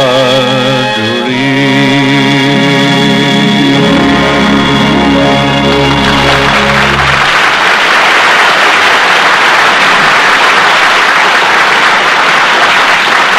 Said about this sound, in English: When the curtain comes down on a fine play, the applause is a clapping of hands.